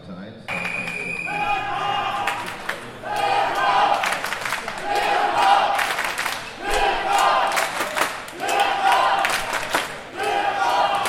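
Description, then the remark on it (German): A crowd of spectators cheers and shouts loudly in surging waves, with repeated swelling bursts of voices, sustained throughout, supporting a wrestler in the bout for third place at the German A-youth wrestling championships. “Trotz eines beherzten Kampfes und der lautstarken Unterstützung der Zuschauer verliert der derzeit beste ASV-Ringer”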